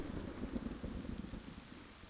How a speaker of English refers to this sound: Yet, somehow, we dragged ourselves on into the storm.